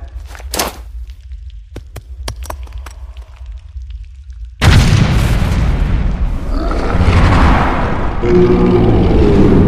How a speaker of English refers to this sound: It's moving towards the explosion. And look, the path is open! No time to celebrate, gang. That explosion compromised the mine. We need to beat feet before it caves in.